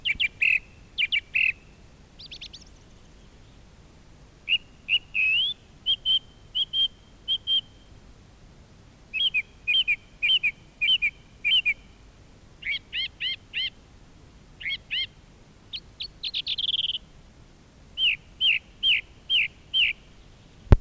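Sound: birds singing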